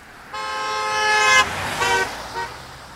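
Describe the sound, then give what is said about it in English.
A car horn blares in one long, loud honk of about a second, followed by two shorter, fainter toots, over low street rumble. “Goddamn car interrupting me.”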